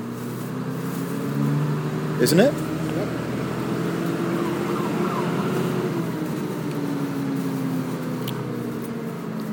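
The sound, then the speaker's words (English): A Routemaster coach bus, an old body with a modern Dart engine and automatic gearbox, drones steadily from inside the vehicle as it starts up and pulls away, a low rumble with shifting tones, while people talk briefly over it. “Okay, so we're now on a different type of Routemaster, which is a coach variant of this type of bus. They've just started up and we're off.”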